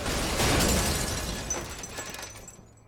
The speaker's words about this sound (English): She smashes the car into a wall.